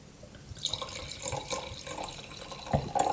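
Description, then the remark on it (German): Schilcher wine pours into a glass, a steady splashing gurgle lasting a few seconds with small bright clinks and bubbles, no voices over it. “Baby, reiß den Schilcher auf.”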